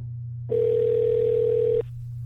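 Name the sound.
phone call ringback tone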